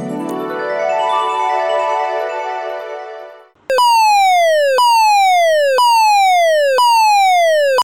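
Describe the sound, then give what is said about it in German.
A fire alarm siren winds up in a long rising wail, then switches to a loud, repeating falling tone, about once per second for five cycles, with no voices. “Eine Feueralarm. Oh nein, das ist keine Hupe.”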